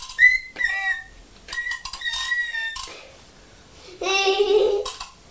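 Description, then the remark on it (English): A real whistle is blown in several short, shrill toots, followed by a longer, lower and louder blast near the end. “every time you blow the whistle”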